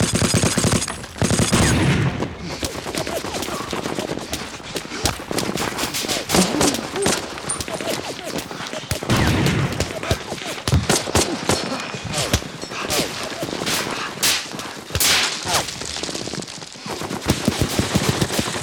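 Dense, continuous battle gunfire: rapid bursts of rifle and machine-gun shots crackling throughout, punctuated by heavier low booms of cannon fire, with a brief shout or voice now and then.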